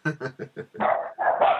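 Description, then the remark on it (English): A dog, just kicked by its owner, barks four times in quick, even succession, then lets out two longer, rougher, strained barking cries. No one speaks. “I just punted my dog.”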